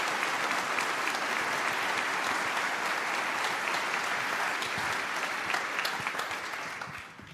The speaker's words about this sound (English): So all the angels that helped actually realizing all these video stuff in general. So big applause for them. It's quite some hours of work.